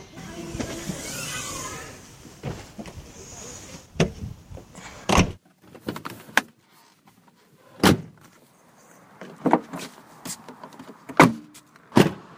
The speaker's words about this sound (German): Die Autohersteller wissen, dass Geräusche beim Auto wertig klingen sollen und nicht billig. Beim Zuschlagen von Türen oder Kofferraum soll ein sattes, ploppendes Geräusch entstehen.